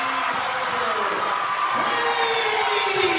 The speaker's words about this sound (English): And we are tied up at 53 points apiece with 3:41 to play here from the Hattic Center in Crete as the crowd comes alive.